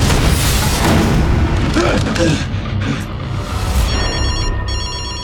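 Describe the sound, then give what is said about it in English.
Deep booming rumble fills the opening seconds, then a telephone starts ringing near the end, a bright, repeating trilling tone cutting through the lingering low noise: Detective Thomas Craven's phone in the film Edge of Darkness. “Craven's phone.”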